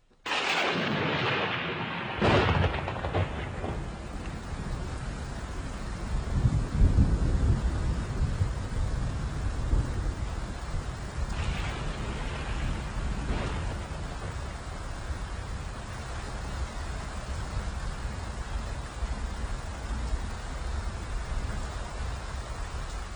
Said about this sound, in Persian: خود بارونو که ما نمیتونیم بهتون هدیه بدیم، اما صداشو که میتونیم تقدیم شما مردم بکنیم.